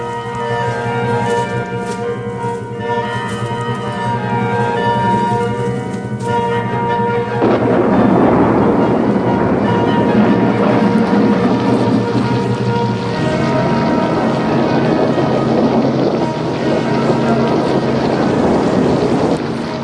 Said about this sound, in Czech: Povětří vyčistí. Vody bude taky dost. Dnešní bouře dobrá není. To mi věř. Neštěstí přivolá.